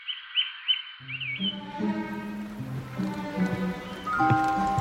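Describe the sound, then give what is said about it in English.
Hollow, resonant thuds of footsteps crossing the wooden planks of a bridge into a pinetum at night, steady, with birds chirping in the background at the start. “Walking over the wooden bridge into the Pineatum.”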